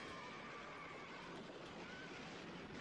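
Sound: horses neighing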